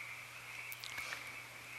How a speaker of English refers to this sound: Shift awareness to sounds. The frogs are cheering you on. Oops, they stopped. They got self-conscious.